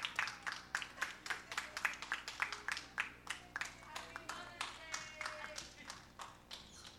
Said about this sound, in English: Oh, keep clapping until she gets to the front.